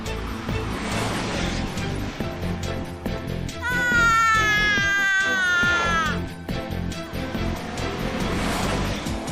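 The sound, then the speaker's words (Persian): A baby's wailing cry rises for a couple of seconds in the middle, a single wavering sob heard over a busy, constant background of noise and rumble. “انگار یکی دیگه هم حواسش به این بچه هست.”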